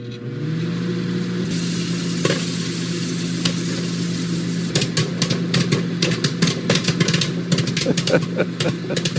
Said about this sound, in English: Well, that sounds like popping corn, like in the big glass case thing that you'd find at a candy store or, you know, the old school on the street kind of thing. Movie theaters.